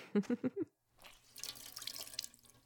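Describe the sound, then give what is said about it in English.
Warm, sudsy water in a washing basin: a few quick, resonant plinks, a brief pause, then a steady, fairly quiet splashing and trickling that continues to the end. No one speaks. “A basin of nice, warm, sudsy water.”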